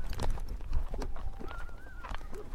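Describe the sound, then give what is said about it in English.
Steady clip-clop of Billy the horse walking, hoof strikes landing in an even rhythm, with a bird chirping faintly in the background and outdoor ambience throughout. “Let's just walk. Nah, he doesn't need recovery, this horse, from his weekend ride.”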